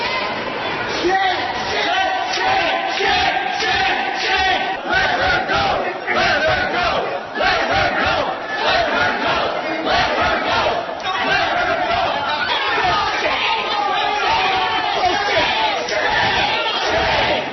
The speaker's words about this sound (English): This is what it sounded like as protesters blocked the elevator doors from closing and a state patrol officer physically forced them back.